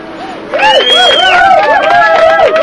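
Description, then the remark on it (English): An applause and cheering sound effect played on the Midweek Drive show: a crowd bursts into cheering and applause after a quieter opening, with overlapping high whoops gliding up and down over steady, dense clapping that stays loud to the end. “Well, in a kind of crazy applause-based sense there.”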